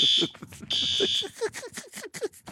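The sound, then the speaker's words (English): A shrill, high-pitched fire alarm blares in two long bursts with a brief gap between them, loud, while a person keeps talking underneath it; the fire alarm is going off at a studio. “For God's sake, the fire alarm just went off.”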